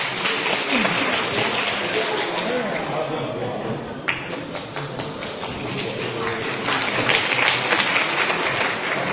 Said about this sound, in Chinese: 感谢您各位的掌声鼓励。